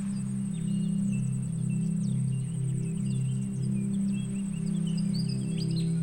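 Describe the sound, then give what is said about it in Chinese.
Scattered birds chirp faintly in bursts, short calls dotted throughout, over a steady low droning hum and a continuous high, thin insect-like whine. “听，还有阵阵的鸟叫声，仿佛在欢迎我们的到来。”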